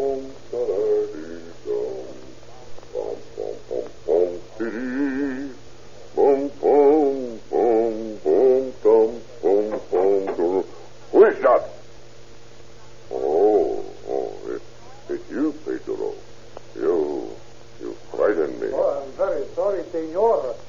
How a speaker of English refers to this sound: The Mexican watchman, making his rounds with his little dog, peers through the window, sees the doctor's huge frame bent low over his retort, and hears the doctor humming an old German song.